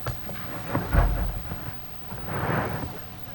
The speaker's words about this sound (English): What would you call a storm that has thunder and lightning? Electrical storm.